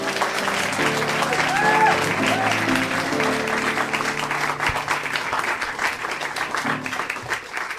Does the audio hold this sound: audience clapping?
yes